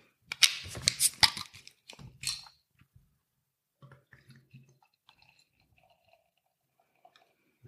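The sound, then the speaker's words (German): A bottle of Belhaven Black, a 4.2% Scottish stout from the Belhaven brewery, is opened: a cluster of sharp clicks and scrapes, then a brief fizzy hiss, followed by faint gurgles and a few soft taps. No one speaks. “Ja, dann würde ich sagen, mache ich die Flasche doch mal auf.”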